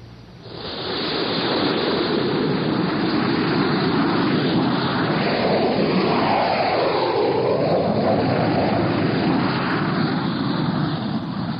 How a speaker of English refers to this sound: Six jet fighters were taking off from Hank Field